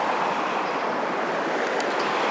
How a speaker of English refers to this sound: So, you can hear there the river.